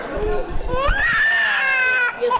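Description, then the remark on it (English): A two-year-old boy wails after crashing off his chair onto a tile floor, in a long, rising, high-pitched cry that holds steady before breaking off, preceded by a few shorter whimpering sobs, loud and alone with no talking. “As if on cue, her two-year-old son crashes off his chair to the tile floor.”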